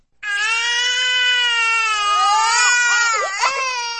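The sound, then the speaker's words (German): A baby wails at home after midnight in one long, loud, unbroken cry, its pitch wavering and rising before breaking into a shaky sob near the end, with no talking. “Daheim war der Fünfjährige vom Weinen des Babys aufgewacht.”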